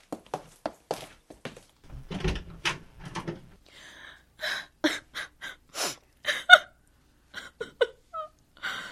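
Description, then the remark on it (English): A woman sobs in broken, irregular bursts, with sharp catching gasps and short whimpering cries, no words spoken. “She's crying.”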